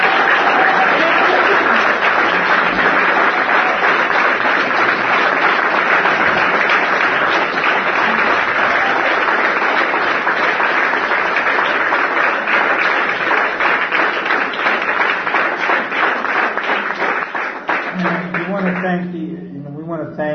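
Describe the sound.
An event audience breaks into loud, sustained applause for a guest speaker, a dense wash of many hands clapping that holds steady for nearly twenty seconds before thinning out as a voice comes back in.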